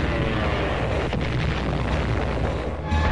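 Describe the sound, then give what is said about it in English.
A World War II Japanese kamikaze attack: a dense, continuous roar of heavy low rumbling blasts, with a brief whooshing sweep partway through and a sharp shift in the din just before it ends. “Japanese kamikazes.”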